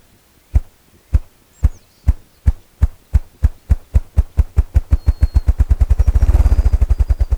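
A male ruffed grouse drums on a resonant fallen log in a brushy thicket at the edge of a young aspen and poplar forest: deep, muffled thumps start slow and evenly spaced, then speed up into a rapid, rolling whir that blurs together before cutting off, with faint bird calls behind.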